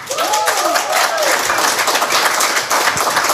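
Sustained audience applause welcoming a guest onto a show, a dense steady wash of many hands clapping, with a few cheers and whoops rising over it near the start.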